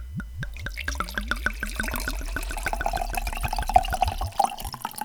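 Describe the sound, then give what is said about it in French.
Wine glugs steadily from a bottle into a glass, a quick run of gurgling pulses whose pitch rises as the glass fills, with no voices. “Vous l'avez compris, aujourd'hui nous parlons de vin.”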